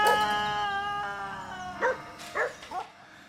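A dog lets out a long, steady howl, then breaks into three short whimpering yelps, fairly loud, with no voices.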